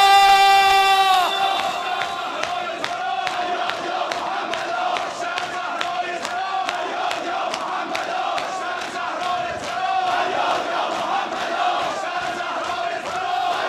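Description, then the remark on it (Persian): A large crowd shouts together in unison, many raised voices blending into a loud, sustained roar with a steady rhythmic pulse running through it for the whole stretch. “فریاد باید فریاد کنید.”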